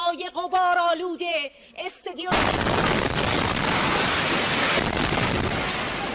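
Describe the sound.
A woman is speaking during a live broadcast on Iran's state-run television when a sudden, loud explosion from an Israeli strike cuts her off, followed by about four seconds of dense, roaring and crackling noise that fills everything.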